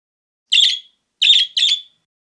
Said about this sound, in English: Suddenly, a bird cries from the tree.